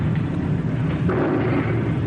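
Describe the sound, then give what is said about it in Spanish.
A distant explosion rumbles low and muffled through the heavy hiss of an old tape recording, a dull sustained boom with no voices over it. “Pero también quedaron grabados en varios momentos de aquellas cintas explosiones.”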